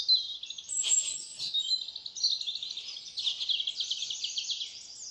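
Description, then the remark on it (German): A dense chorus of many birds singing at once in a forest, continuous high chirps and trills overlapping throughout, fairly loud with no voices. “Riesen Vögelgebrüll.”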